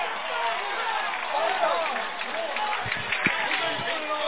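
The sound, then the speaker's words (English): A large stadium crowd at a Vikings versus Wildcats football game cheers as a personal foul face mask penalty flag goes against the Wildcats, in a steady, sustained roar of many voices, holding one loudness throughout with a few low thumps near the end. “and they're showing their appreciation as the flag goes against the Wildcats.”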